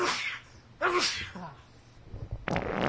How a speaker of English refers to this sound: farting and me sneezing. And I'm stuck in the middle of it, too.